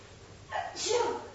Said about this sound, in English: We have a little button here that we push for when we want people to sneeze.